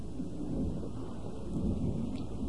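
Deep, steady rumble of thunder rolling through a storm, sustained at fairly constant loudness over a rainy hiss, with no voices.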